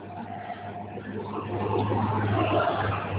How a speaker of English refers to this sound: These guys are driving like crazy people.